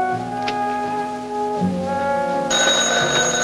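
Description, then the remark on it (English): A telephone rings with a steady, buzzy electronic tone that shifts pitch partway through and grows brighter near the end, fairly loud, before Anne goes to answer it. No one speaks. “Anne goes to the phone.”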